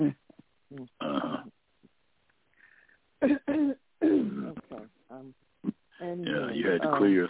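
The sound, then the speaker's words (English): Repeated throat clearing in several short, rough bursts with brief pauses, mixed with other voiced sounds, from a person clearing the throat after drinking water. “You had to clear your throat after the water in your mouth and stuff.”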